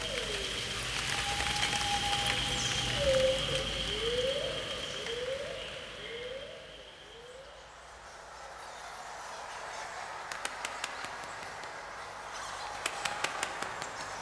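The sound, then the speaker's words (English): A steady, soft hiss of rain falls continuously in the rainforest outside a cave, with a few faint rising tones early on and scattered sharp drips tapping near the end. “it's getting late, and now it's going to rain.”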